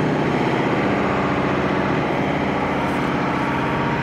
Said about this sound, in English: But as you can hear, the sound of the drilling is quite prominent.